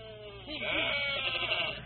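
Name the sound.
sheep bleating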